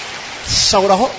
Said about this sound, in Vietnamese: Chúng ta cho một tràng pháo tay hơn hai bạn đó.